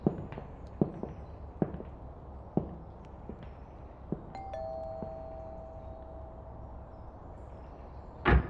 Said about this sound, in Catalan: Per què no vas tocant a les portes a veure si algú en sap alguna cosa? Molt bé.